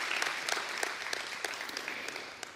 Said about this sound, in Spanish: No sé si ustedes han disfrutado, pero yo he disfrutado muchísimo la adoración al Señor. Y quiero darles un aplauso al Señor, no a los hombres.